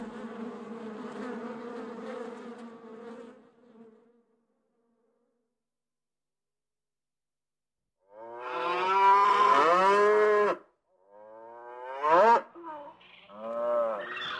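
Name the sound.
cow mooing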